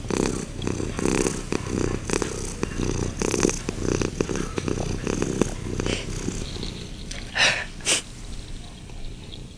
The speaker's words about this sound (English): More purring. Probably isn't coming out loud enough.